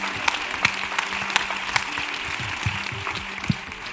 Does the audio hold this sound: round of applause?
yes